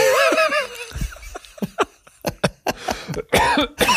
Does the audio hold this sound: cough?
yes